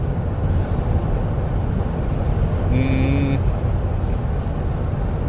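Steady, loud rumble of road traffic fills the whole stretch, continuous, with a brief high-pitched tonal squeal rising out of it midway before the roar carries on.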